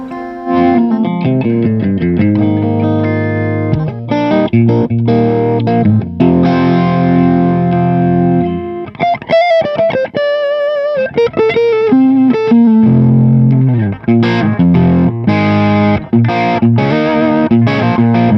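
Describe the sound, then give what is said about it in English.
A heavily overdriven electric guitar, turned all the way up with no distortion pedals, plays loud chords and riffs through a cranked Marshall Super Lead tube amp, with a brief squealing, high single-note passage in the middle before the thick chugging returns. “I really wanted to shoot for no distortion pedals at all on this whole tour, so I ended up with this Marshall Super Lead. Yeah. Where I just dimed the guitar for that.”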